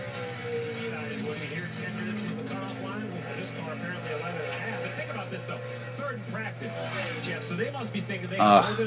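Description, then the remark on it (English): Stock car racing engines drone steadily during qualifying, a low, continuous roar beneath people talking, with a brief louder surge near the end. “I love the sound of those engines.”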